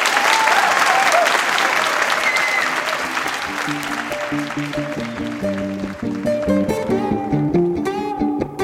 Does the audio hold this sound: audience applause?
yes